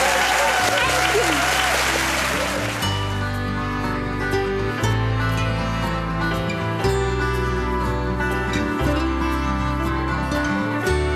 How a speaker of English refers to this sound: Everyone, can you please give the hugest round of applause to Marion King? Thank you.